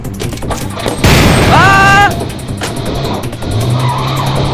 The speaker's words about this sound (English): Someone's firing at us! Up there, on that roof! Quickly, into the car! Get in the car!